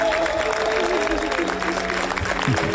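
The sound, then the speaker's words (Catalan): A large audience applauds steadily and loudly at the end of a film screening at the Critics' Week of the Cannes Film Festival, a dense wash of clapping with crowd murmur and a few voices mixed in, continuing throughout. “I aquesta ha estat la reacció del públic quan s'ha acabat la projecció.”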